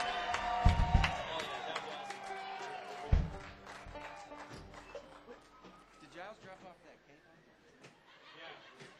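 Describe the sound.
A crowd applauds and cheers, scattered claps and excited voices mixing with a few sharp thumps before the noise thins into a murmur of chatter.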